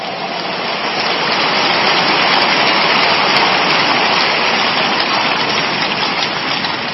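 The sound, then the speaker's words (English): A church audience claps steadily and loudly in praise of the Lord, a dense wash of many hands blending into a continuous roar that holds an even level for about seven seconds with no voices on top. “Give the Lord another big clap of praise.”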